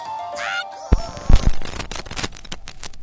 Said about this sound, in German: Hört ihr es knacken und knistern? Hallo zum Medientag, und das hier ist ein ganz altes Medium, so klingt eine Schallplatte.